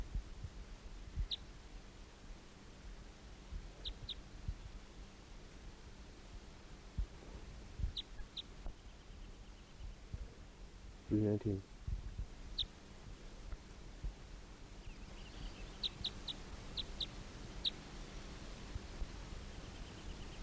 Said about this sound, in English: The decoys all calling behind.